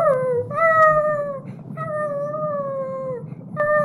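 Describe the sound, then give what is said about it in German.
A wolf howls in three long, drawn-out calls, each steady and slowly falling in pitch, with brief pauses between them over a low, rumbling background. “Aber da gab es auch ein schrecklicher Wolf”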